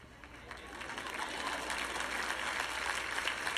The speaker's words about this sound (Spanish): Menos mal, una persona aplaudió por acá que está despierta.